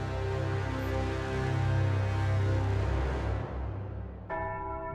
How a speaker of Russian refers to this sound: Я проснулся от резкого сигнала тревоги. По всему кораблю звучали резкие, частые удары колокола.